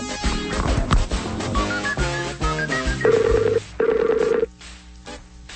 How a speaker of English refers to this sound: I'm calling you. Pick up the phone. I'm calling you. It's coming from inside the house.